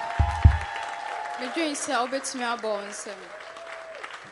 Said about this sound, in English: Oh, I think you can clap.